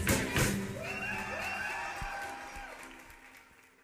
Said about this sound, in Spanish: Así es, estamos ya iniciando, por supuesto, muchas gracias. Gracias por estos aplausos, gracias por esta bienvenida.